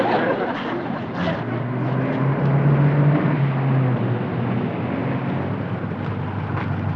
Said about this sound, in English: Have we got company? Yeah, that's the radio detection truck. We try to reach London now, they locate our transmitter.